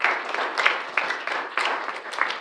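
An audience applauds the sound, video and light crew after a children's stage production, many hands clapping in a dense, even wash of sound with sharper bursts here and there, loud and continuous throughout with no talking.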